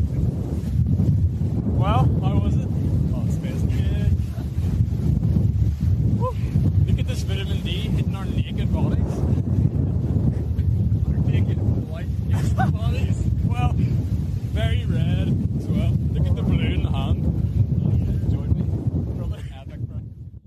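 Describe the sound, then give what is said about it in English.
Ocean waves churn under a loud, constant roar of wind buffeting the microphone while a person wades with their shoulders under the water, with brief muffled vocal sounds surfacing now and then through the rumble. “There's a lot of waves and I'm still gonna get my microphone wet.”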